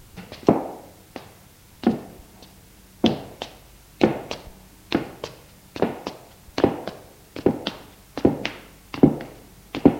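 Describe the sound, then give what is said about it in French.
Heavy footsteps approach one after another, about a dozen and a half hard, dull steps at an uneven walking pace, each a sharp knock-like impact with no voices. “Tout à coup, un bruit de pas se rapprochait.”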